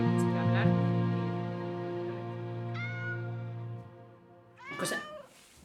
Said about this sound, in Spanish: Es la gata. Ay, Chloe. Porque esto es Villa Chloe.